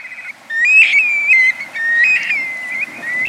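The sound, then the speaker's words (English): Calls of young black-bellied plovers in a flock migrating south: two long, plaintive whistled notes that rise, then slide and hold, over a steady thin high whistling background. No voices. “But shorebirds are social birds, so it joins other young black-bellied plovers as they make their way south.”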